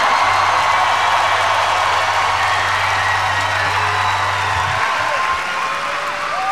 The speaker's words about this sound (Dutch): Maar ze zijn wel naar hier gekomen, dus alsjeblieft, fucking groot applaus voor de internationals!